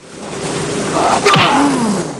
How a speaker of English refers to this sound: Gibson punches Fender, and Fender returns the blow, spinning Gibson round. He lands another punch, knocking him backwards.